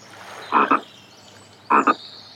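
A frog croaks twice, each call a quick doubled ribbit, spaced about a second apart, over a faint steady background hiss.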